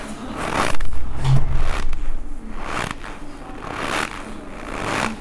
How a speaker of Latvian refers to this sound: Tad ir arī ļoti interesanta apskaņošanas ierīce šis maisiņš, kurā ir kartupeļu ciete un sanāk, ka cilvēks staigā pa sniegu.